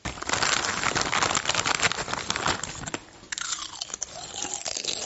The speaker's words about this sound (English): Someone eating some lovely crisps. Someone eating some lovely food.